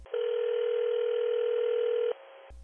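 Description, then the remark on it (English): A steady, unbroken telephone dial tone hums for about two seconds while a call is being placed, fairly loud, then cuts off abruptly into brief background noise. “So let's get him on the phone.”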